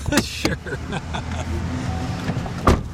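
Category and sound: vehicle, car engine idling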